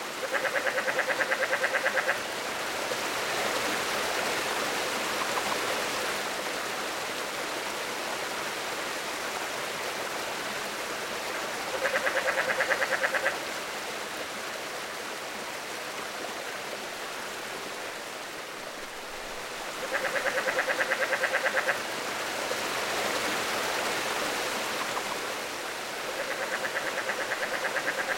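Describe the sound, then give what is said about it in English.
Steady rushing stream water fills the background while a relict leopard frog gives low chuckling calls in four short bursts, each about two seconds long, spaced several seconds apart. “if you listen carefully, you might hear the faint chuckling of the relict leopard frog.”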